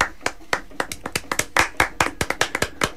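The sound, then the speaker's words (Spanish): A small group claps in applause for the Catalan dockworkers, about fourteen sharp, bright hand claps in three seconds, slightly uneven and loud, with no talking over them. “En cualquier caso, nuestro aplauso a los estibadores catalanes.”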